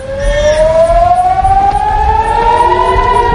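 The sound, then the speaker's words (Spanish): Air raid sirens sound a missile alert in the morning in Haifa: a wailing siren holds a steady, slowly rising tone, loud and continuous throughout, with a faint echoing layer of other sirens and no voices. “El de las alertas de las sirenas antiaéreas.”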